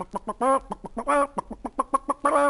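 A chicken clucks in quick, choppy bursts, short clucks broken by a few longer, drawn-out squawks. Close and fairly loud, with no talking over it.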